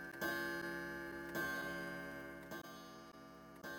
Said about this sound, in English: A china clock on the mantelpiece strikes 12.